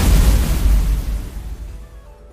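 A heavy, booming fire cannon blast in a turn-based block battle video game, launched by the evil chocolate cookie, loud, with a deep low rumble that trails off and fades over a couple of seconds, no voices present.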